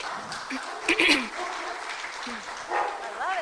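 A dog gives a couple of short, sharp barks, then a thin, rising-and-falling whimper. Both are fairly faint and set against steady room noise.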